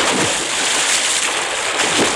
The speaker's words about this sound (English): They've fallen into water!